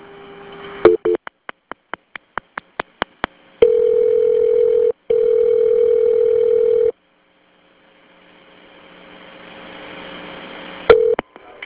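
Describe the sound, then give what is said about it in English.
A telephone line as an emergency call is transferred to Lawrence: a quick run of clicks and short beeps, then a steady low dial tone broken by a brief gap, followed by faint line hiss and a final click. “Okay, stay in the line. I'm going to transfer you over to Lawrence.”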